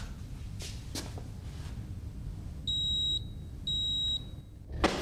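A pager beeper worn by a man lying on a metal trolley in a mortuary sounds two shrill, steady electronic beeps about a second apart, clear over a low background rumble, with a few sharp clicks before and a bump after.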